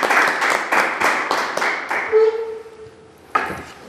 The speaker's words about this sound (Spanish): Un aplauso para la...